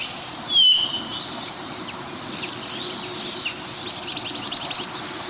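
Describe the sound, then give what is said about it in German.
Several birds call over one another: a nuthatch, a starling and linnets flying over, with thin whistles, sharp chirps and a quick repeated trill near the end, over a low steady outdoor rumble. “Dass hier sehr viele verschiedene Vögel durcheinander knallen. Also wir haben den Kleiber, wir haben den Star, wir haben Bluthänflinge, die rüberfliegen.”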